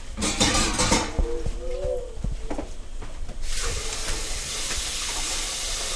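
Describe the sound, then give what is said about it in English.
A steady hiss of steam and bubbling water as a pot of water is brought to a boil in a home kitchen in Columbus, swelling louder and brighter halfway through, with a few faint bird chirps early on. “All right, let's get the water boiling.”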